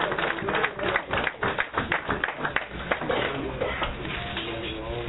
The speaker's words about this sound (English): them a round of applause.